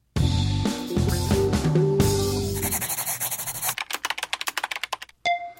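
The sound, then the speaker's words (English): A sustained, droning tonal passage gives way to a rapid, steady run of sharp typewriter key strikes, then a brief pause and a final bright ringing tone. “And it's time for your letters, some of which apparently are being written with typewriters.”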